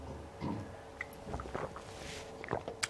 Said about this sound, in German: Und dann würde ich sagen, nehme ich noch ein Schlückchen Wasser und leg einfach mal los heute. Einmal einen Schluck.